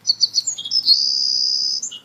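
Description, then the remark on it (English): A song of the rare savanna sparrow, a tiny bird: a few quick, high chips, then a long thin buzzy trill and a short lower note at the end. It is clear and unaccompanied by voices. “And then the song of the rare savanna sparrow. Tiny little bird, and he sings a song which sounds like, tick, tick, I'm so lazy.”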